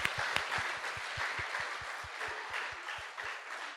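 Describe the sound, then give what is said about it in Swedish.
A group applauds the girls who won a competition, steadily for a few seconds, a dense wash of clapping with a regular, rhythmic thumping beat running beneath it at a quick, even pace. “Ska vi ge lite applåd?”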